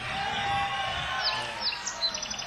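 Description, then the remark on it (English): A few quick, high chirps from birds break through a steady wash of background noise, arriving in short bursts during the second half. “This is the point in the show where we always hear birds.”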